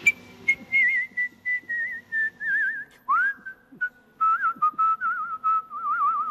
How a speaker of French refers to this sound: Mais d'abord, on l'écoute siffler au micro